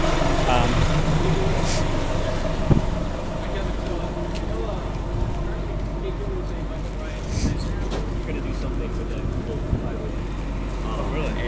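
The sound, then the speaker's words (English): Riding on the number 16 city bus: a steady low engine rumble and road noise fill the ride, with occasional clunks and rattles and indistinct voices murmuring underneath. “Now we're getting on the bus.”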